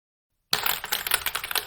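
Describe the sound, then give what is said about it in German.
After a brief silence, rapid clacking keystrokes from a mechanical keyboard start up loud, a dense, steady run of sharp clicks with no voices. “Ja, da habe ich vor kurzem eine mechanische Tastatur geholt.”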